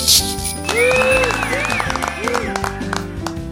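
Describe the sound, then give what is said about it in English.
In a hall, a crowd cheers and claps, with rising and falling whoops over a steady bed of noise, while bells jingle and ring through it for a few seconds. “Suddenly, the sound of bells floated through the hall, and everyone stood still.”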